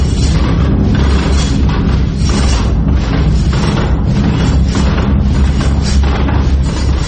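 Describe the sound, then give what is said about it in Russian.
Wooden and iron noise machines invented by Vladimir Popov, exhibits of an exhibition from the Noise Reconstruction project, being struck, beaten, rubbed and cranked in rhythm together, a loud, dense, continuous rumble with heavy low booming and rhythmic clattering thuds running throughout, no voices. “Но вот послушайте, что получается, если в нужном ритме стучать, колотить, тереть экспонаты выставки и крутить у них ручки.”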